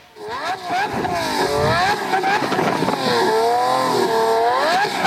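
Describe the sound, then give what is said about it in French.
A loud tuned car engine, fitted with an exhaust to make the car louder, revs up and down repeatedly, its pitch swooping higher and lower in waves, continuous throughout, with a raspy exhaust roar. “mettre un peu d'échappement pour que ta voiture fasse plus de bruit.”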